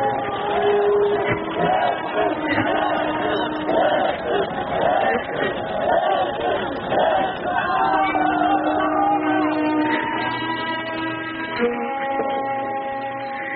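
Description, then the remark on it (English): A large crowd murmurs and chatters steadily, many overlapping voices blending into a dense, continuous hubbub at moderate loudness, with no single speaker standing out. “Many in the crowd behind me thought would never come.”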